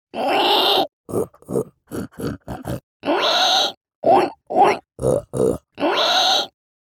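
A voice imitates pig grunting: loud, rough snorting grunts, long drawn-out ones alternating with a run of short choppy bursts, with brief pauses between and no talking.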